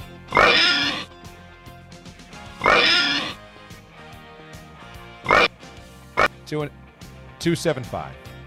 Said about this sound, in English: give me the oinks.